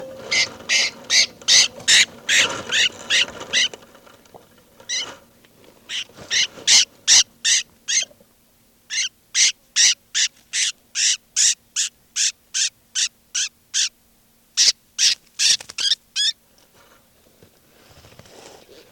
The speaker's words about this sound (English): This is bird 392 being handled.